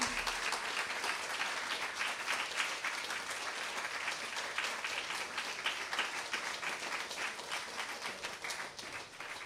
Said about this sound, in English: Can we get one more round of applause for our reader? Yay!